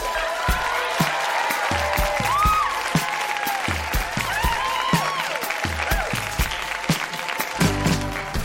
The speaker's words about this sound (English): Toronto, that has been Grown-Ups Read Things They Wrote as Kids. Huge round of applause for everybody who read tonight. So good.